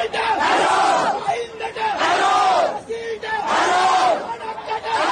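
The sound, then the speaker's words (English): A large crowd of protesters in Sri Lanka, marching on President Gotabaya Rajapaksa's home amid an economic crisis as security forces fire tear gas and water cannons, shouts in loud, rhythmic chants, three swelling bursts of many voices roughly two seconds apart, with a constant roar of yelling between them. “Security forces fired tear gas and water cannons at these protesters marching on the president's home.”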